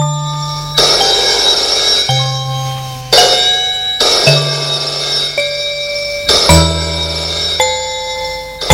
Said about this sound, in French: On croit qu'à chaque fois que le téléphone sonne, que c'est lui.